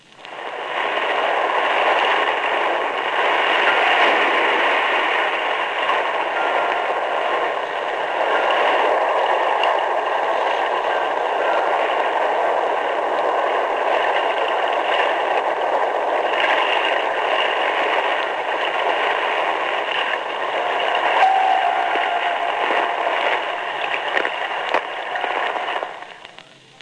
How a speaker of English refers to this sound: During the course of the previous events, the plane had dropped the standard square sonobuoy pattern. Now note the sounds as of escaping air.